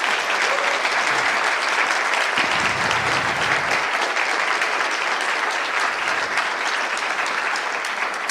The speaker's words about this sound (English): And also, thanks for the Calls of Proposal committee that looked through all those talks, rated it, thought about it, discussed about it. That was a ton of work. So another round of applause for that.